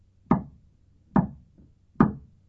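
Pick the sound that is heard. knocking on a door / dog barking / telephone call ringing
knocking on a door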